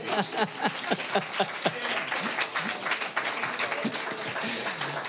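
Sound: audience cheering and applauding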